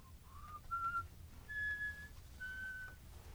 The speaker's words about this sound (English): You hear her whistling.